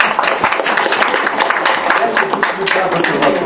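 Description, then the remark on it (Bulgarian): A crowd applauds steadily for a few seconds for the co-chairman of the National Front for the Salvation of Bulgaria, a dense patter of many hands clapping at an even loudness with no single voice standing out. “Моля аплодисменти.”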